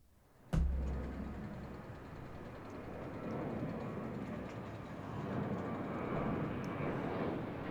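airplane engine flying

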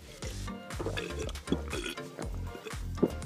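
drinking a beverage

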